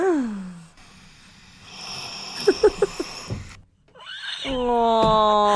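person snoring

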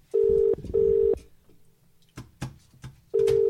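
phone keypad button tones

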